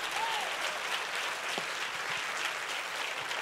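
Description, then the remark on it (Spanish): A church audience claps steadily during a sermon, a dense wash of applause at an even level for a few seconds, with no voices standing out. “Si tú lo crees, tú aplaudes, y si no, no.”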